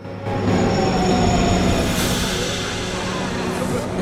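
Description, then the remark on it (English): A subway train rumbles in loud, with a steady low roar, squealing wheel tones and a hissy burst midway as it draws into the station. “A train pulls into a subway station.”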